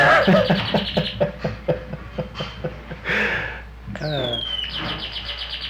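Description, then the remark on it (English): A bird chirps in a quick, steady run of repeated notes, then breaks into rising, whistled calls that trail off. Fairly loud, with no talking over it. “I guess okay if you like birds.”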